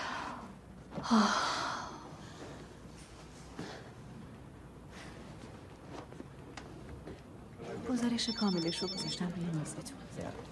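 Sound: telephone ringing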